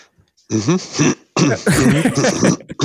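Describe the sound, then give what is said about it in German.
An awkward cough with a throaty, voiced edge: a short burst, a brief pause, then a longer stretch of hemming and clearing. “kurzes betretenes Husten.”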